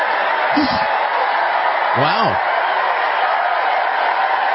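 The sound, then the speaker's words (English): A large crowd at a campaign rally, with Elon Musk on stage, cheers and applauds in a steady, dense roar that fills the whole stretch, with a couple of brief voices breaking through on top. “Listen to that crowd, though.”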